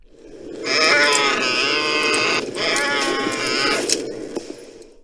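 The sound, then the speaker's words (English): A Tauntaun creature on the planet Hoth lets out a loud, rasping, bleat-like groan, breaking briefly in the middle before carrying on and trailing off. No one speaks over it. “You're on Hoth on a Tauntaun, my friend.”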